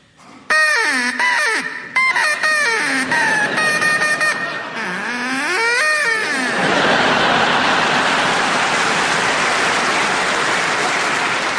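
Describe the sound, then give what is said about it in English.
A person imitates a duck with a run of loud, nasal quacks and wobbling squawks for several seconds, then a long wash of applause-like noise fills the rest. “Can we please hear your duck”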